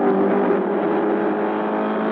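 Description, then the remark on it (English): The engine of the Ford Mark IV, the winning race car in France in June 1967, drones steadily and loudly, a sustained buzzing roar with a constant pitch held for a couple of seconds, with no speech over it. “You're listening to the car that won, the Ford Mark IV,”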